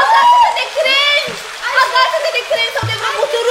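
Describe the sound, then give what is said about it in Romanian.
Water splashes and churns in a raging torrent while the high-pitched voice of the Easter Bunny cries out for help over it, with short broken bursts of splashing throughout. “Aoleu, și dacă nu mă scapă cineva din furia apelor, ouăle din panerașe vor rămâne nevopsite.”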